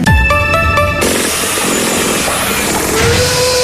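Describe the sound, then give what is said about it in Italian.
Loud, continuous construction-site racket of power tools and machinery, opening with a brief burst of pulsing tonal whine before settling into a steady, grinding roar with no talking. “anche tu a guardare questo cantiere?”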